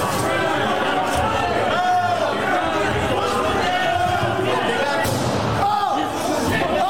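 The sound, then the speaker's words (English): A crowd shouts and clamors nonstop while heavy thuds and bangs strike the door to the House chamber as they try to break through, the pounding and yelling loud, chaotic and continuous throughout. “You're trying to break through the door to the chamber, to the House chamber.”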